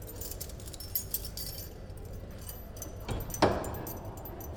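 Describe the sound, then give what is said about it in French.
Keys jangle in short metallic bursts, then a door clunks open with a sharper thud near the end, with no one speaking. “Ça doit être dur d'ouvrir toutes ces portes.”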